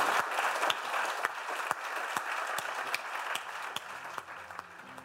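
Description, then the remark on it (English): A large London Business School audience applauds Mark Rowley steadily, a dense wash of many hands clapping with a few sharper claps standing out, holding fairly even before easing off slightly toward the end. “And with that, I think a huge, huge London Business School round of applause for Mark Rowley.”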